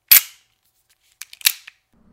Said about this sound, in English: Johnny hears a revolver cock.